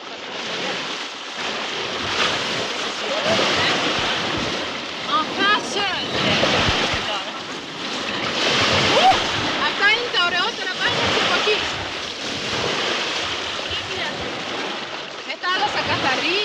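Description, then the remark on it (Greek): Sea waves wash steadily onto a pebble shore in a continuous rushing surf, with faint, indistinct voices of children and parents drifting in the background and some wind buffeting. “Είμαστε τώρα στη θάλασσα.”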